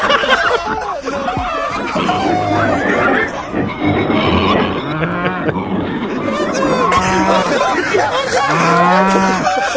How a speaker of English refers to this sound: It sounds like a farm, dude. It sounds like a bunch of farm animals. It sounds like the Wicked Witch of the West's flying monkeys just came in the window and started to attack everyone.